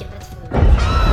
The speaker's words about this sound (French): Ah, cette explosion n'est pas normale. Il n'y a plus de centrale à faire sauter pourtant.